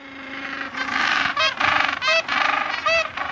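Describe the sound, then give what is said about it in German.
A gentoo penguin's braying call: a loud run of harsh, nasal honks with rising and falling pitch, repeated in quick bursts like a donkey's bray, with no talking. “nach dem Esel benannt ist, weil sein Sound so ein bisschen klingt”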